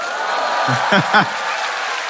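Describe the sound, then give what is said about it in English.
A church audience claps steadily in a dense, even wash of applause, while a few brief voices call out over it near the middle. “Okay, I'll take the clap.”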